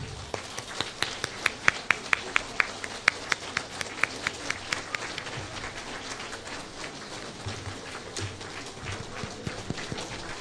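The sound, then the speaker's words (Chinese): Sustained applause from a crowd at a Buddhist gathering in Vancouver, welcoming Lu Junhong: a dense steady patter of many hands clapping, with a few sharper individual claps standing out early on, continuing for about ten seconds without voices. “现在，让我们用最热烈的掌声恭请尊敬的卢军红台长。”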